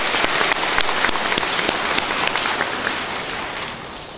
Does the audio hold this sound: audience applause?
yes